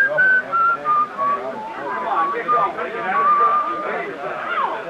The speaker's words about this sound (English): I get up and I'm making for the door when I hear it. And then I remember I'd been hearing that whistling right along and didn't notice it.